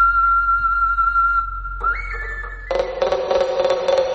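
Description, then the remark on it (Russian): A Mari folk whistle, a stone whistle or clay nightingale, sounds a long, steady, pure high note, steps up slightly in pitch, then breaks into a bright, fluttering warble in a birdsong-imitating melody, played alone. “Таш Сыбызги называется каменный свисток, шуншушпык, глиняный соловей марийский.”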